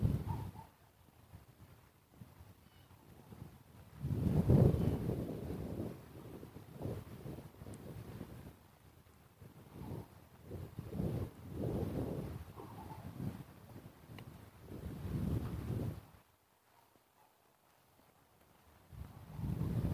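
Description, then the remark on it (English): Wind buffets the microphone in uneven gusts, producing a loud, low, rough rumble that swells and fades repeatedly before dropping to a quieter lull near the end. No one speaks. “The wind is pretty much butchering any sounds from a distance.”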